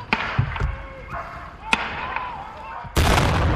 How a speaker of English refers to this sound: Less than a minute after the man moves back inside the building, gunfire erupts.